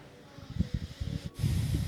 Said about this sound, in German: atmet schwer. Denkt nach.